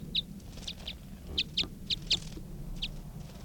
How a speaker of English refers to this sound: That was a wild bird.